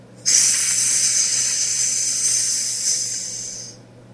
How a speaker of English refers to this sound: What's in this sack? What's in this sack? It's making a strange hissing noise. It's making a strange hissing noise.